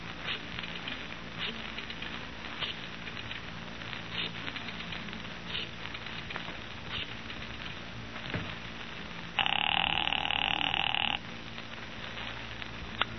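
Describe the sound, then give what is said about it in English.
A single telephone ring during a phone call, lasting under two seconds, loud, cutting through a steady crackly, croaking background that continues throughout. No one speaks. “I've got an important phone call to make.”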